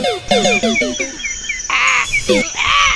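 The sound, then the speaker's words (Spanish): Loud, harsh caws from the Comunica crow in a Zona PUC radio spot repeat in quick succession: several short calls followed by two longer raspy ones, prominent with no other sounds competing. “¡Soy el cuervo de Comunica!”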